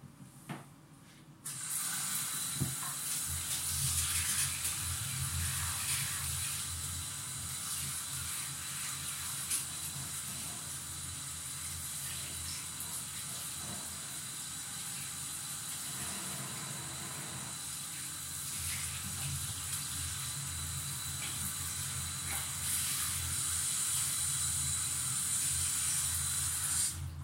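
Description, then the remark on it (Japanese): Shower water sprays in a steady, hissing rush that starts after a brief quiet moment and runs on continuously, with slight shifts in texture as the stream splashes and rinses. “気にせずシャワーで流せ。”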